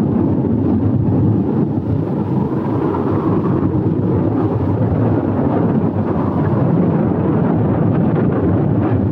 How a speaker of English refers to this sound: The storm rages on.